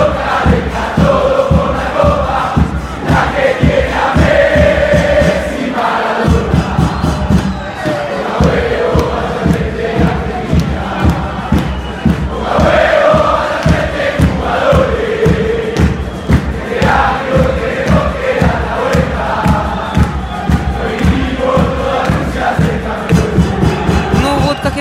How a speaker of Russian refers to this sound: Аргентинцы приехали в один из отелей Северной столицы. Там их с кричалками и песнями поджидали фанаты. У нас есть аудиозапись того, как это было.